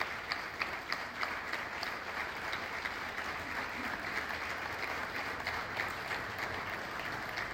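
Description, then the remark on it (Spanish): Sustained audience applause in Brinkmann for the first director of the municipal Culture Department, a dense steady patter of many hands clapping at once without letup for several seconds, moderately loud. “Le vamos a brindar un aplauso, que está presente.”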